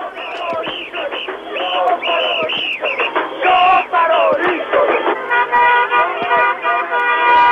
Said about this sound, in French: Toute la ville est descendue dans la rue, des centaines de milliers de personnes. On a klaxonné pendant 4 heures dans toutes les rues de la ville.